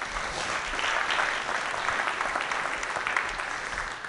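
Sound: audience applause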